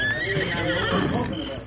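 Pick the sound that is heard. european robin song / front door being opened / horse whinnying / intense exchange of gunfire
horse whinnying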